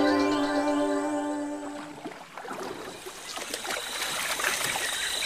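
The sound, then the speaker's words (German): A dugout canoe, a boat hollowed out of a tree trunk, moves through water in the rainforest, with steady paddle splashes and trickling, burbling water after a fading sustained musical tone in the first two seconds. No one speaks. “Hallihallo und herzlich willkommen im Regenwald. Mein Name ist … und ich bin hier mit einem Einbaum unterwegs.”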